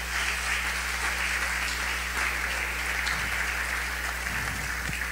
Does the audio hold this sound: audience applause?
yes